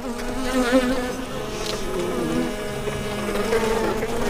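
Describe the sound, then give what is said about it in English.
A dense, steady hum of many bees buzzing around brightly painted beehives on a brisk, sunny midweek morning on Old Mission Peninsula near Traverse City, wavering pitches overlapping continuously for a few seconds with no voices present. “he's getting ready to check out some brightly painted beehives”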